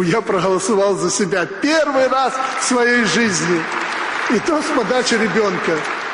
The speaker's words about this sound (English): Lukashenko teases a round of applause from supporters